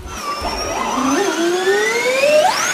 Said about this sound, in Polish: Dźwięki rodem z Gwiezdnych Wojen to cecha charakterystyczna bolidów Formuły E, zwłaszcza tych drugiej generacji. Debiutujące w cyklu samochody to jednak nie tylko podrasowane odgłosy elektrycznego silnika.